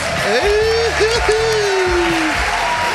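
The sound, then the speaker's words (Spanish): Steady, dense applause fills all three seconds at a loud, even level, with a voice holding a long drawn-out call over the clapping. “Claro, que empiece todo con aplausos.”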